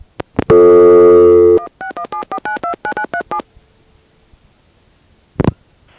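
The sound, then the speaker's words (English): A few clicks, then a loud, buzzy low telephone tone in Massachusetts, called to begin a five-way call, holds for about a second before a quick run of around ten touch-tone digits beeps out. A quiet pause and a final click follow. “The five-way call begins with my making a call to a low tone in Massachusetts.”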